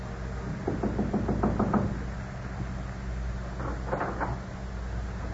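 A man knocks firmly and rapidly on the wooden door of a home in Paris, about eight quick raps, then a pause and a shorter second burst of knocking, over a low steady background rumble.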